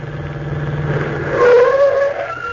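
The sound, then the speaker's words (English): A taxi approaches with a steady engine drone that swells louder midway as the motor revs higher, then eases slightly as it draws near. No one speaks. “Oh, here comes another car. A taxi.”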